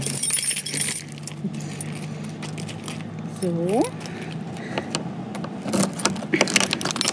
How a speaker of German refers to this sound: Schweres Schloss wird entfernt. Und jetzt öffnet sich die Tür und man sieht die Dicke der Wand, also über 2 Meter teilweise.